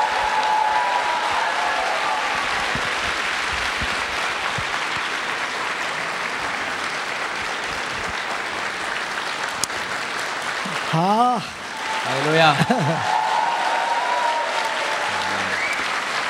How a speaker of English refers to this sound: 我们热烈的掌声欢迎我们的家长。 Let's applaud and welcome